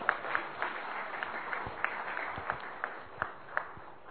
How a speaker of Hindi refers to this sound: सही है तो ताली बजा दो।